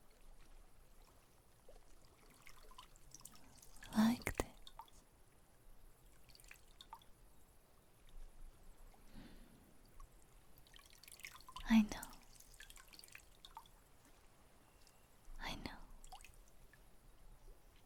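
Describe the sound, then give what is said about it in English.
Healing water is poured and drips onto a person's shoulder in a few soft splashes spaced several seconds apart, with faint whispery sounds and quiet room tone between them. “I will pour a little bit on your shoulder.”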